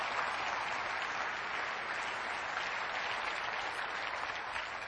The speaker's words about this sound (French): Et quelqu'un devrait applaudir l'œuvre de Dieu en action.